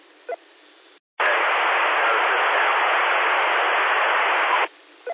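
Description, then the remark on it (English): A loud, steady burst of hissing amateur radio static with a crackly, sizzling texture, like bacon frying, runs for about three and a half seconds after a brief dropout, with faint clicks before and after. “That's turned back into 90-95% just bacon frying static.”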